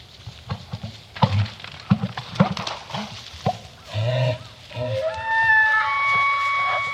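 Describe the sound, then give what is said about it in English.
Two bull elk lock antlers and fight at sunrise among willows on wet, muddy ground, about 75 to 100 yards away: a burst of irregular, sharp clacks and knocks, followed by high, wavering squeals and whistling calls that rise over a low rumbling background. “Two of the males just lock antlers and start fighting, and you can hear the antlers banging into each other.”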